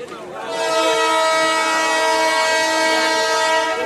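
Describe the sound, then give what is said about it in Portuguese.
A train whistle blows in Moatize at 6 a.m., telling waiting passengers they may now board: one long, loud, sustained blast, its steady harmonic tone rising in after a brief moment and holding strong to the end. “São 6 da manhã e este apito diz aos passageiros que agora podem subir.”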